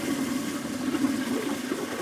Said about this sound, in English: The refreshing sounds of a toilet flushing in prison.